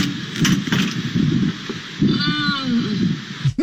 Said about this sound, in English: Was that a moan? Was that a moan from the trash can? Yes, the garbage cans moan. And they say racy things after being fed trash.